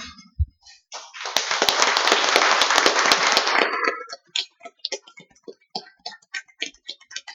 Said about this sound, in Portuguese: E peço que todos fiquem em pé e uma salva de palmas para essa mulher.